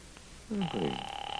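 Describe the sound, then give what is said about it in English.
A steady electronic ringing tone comes through a phone line as a call is placed to the Owl Diner, sustained and fairly clear, with a brief croaking, voice-like sound overlapping its start. “I'm going to get them on the phone right now.”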